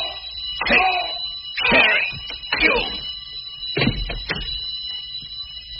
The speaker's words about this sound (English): He's turning in an alarm.